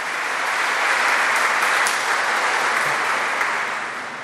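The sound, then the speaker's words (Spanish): A crowd applauds the word of God during a sermon, a dense wash of many hands clapping at a sustained, fairly loud level for about four seconds before tapering slightly at the end. No one speaks. “Hay que aplaudir a la palabra, démosle gracias a Dios por esa palabra que es un verdadero regalo del Señor.”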